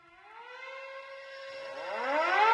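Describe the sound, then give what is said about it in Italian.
A siren wails upward in a long rising sweep, its tone climbing steadily and growing louder over a couple of seconds, with no voices present. “Scocca nella sirena che avvolge la voglia di sound”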